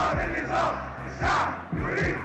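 protest crowd shouting

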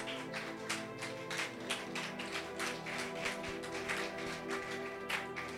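audience clapping

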